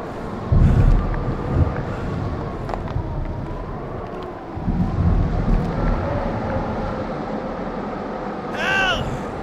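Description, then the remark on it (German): A strong storm wind roars steadily and loudly throughout on a high mountain, rising in heavy gusts, with a brief whistling tone near the end. “Der Sturm wird immer schlimmer.”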